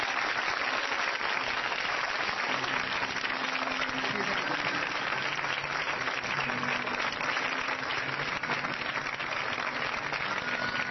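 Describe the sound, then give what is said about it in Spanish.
A crowd claps steadily and continuously to the glory of God at night, a dense, even wash of applause filling the whole stretch with a few faint low murmurs beneath it. “Aplauda la gloria de Dios en esta noche.”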